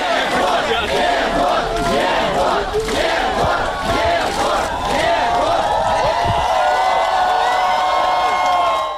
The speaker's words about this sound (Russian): Приговор Жукову 3 года условно вызвал всеобщее ликование. Все-таки даже условный срок намного лучше тюремного заключения. На выходе из суда ему устроили настоящую овацию.